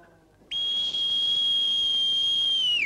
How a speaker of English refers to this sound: A seaman sounds a whistle on the compass rose.